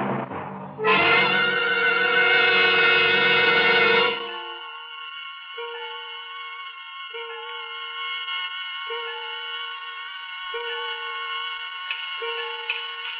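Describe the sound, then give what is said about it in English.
A loud orchestral chord gives way to a sustained held tone, under which a clock on a dresser in a hotel room ticks slowly and steadily in a regular, deliberate rhythm, with no voices. “I'm standing here staring at a clock on a dresser in a crummy hotel room.”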